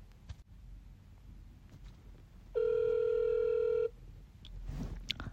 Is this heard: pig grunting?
no